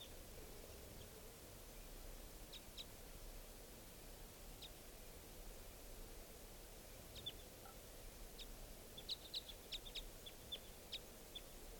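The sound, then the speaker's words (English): At 8:08 a.m., at least four birds, spread out a little, give short, high chirping calls at scattered moments, faint, with a quicker burst of chirps toward the end, all over a steady low background hiss and rumble. “Pointed at one of the birds.”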